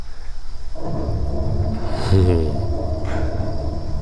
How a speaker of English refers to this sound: Thunderstorm.